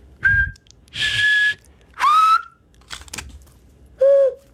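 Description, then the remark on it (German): A person whistles four short bursts in different styles: a clear pure tone, an airy breathy whistle, a rising note with a buzzy edge, and a lower rounder tone, each separated by brief pauses. “Und auf alle verschiedene möglichen, auf wie viele Arten kannst du pfeifen?”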